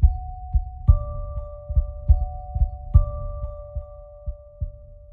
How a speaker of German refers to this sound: dort ist eine Glitzerkugel neben dem Eingang. Vielleicht ist das eine Klingel.